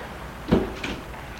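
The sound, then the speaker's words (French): A car door clunks shut with a solid thud, followed moments later by a lighter click, as people get out of a car, against a quiet background with no talking. “Sortent de voiture”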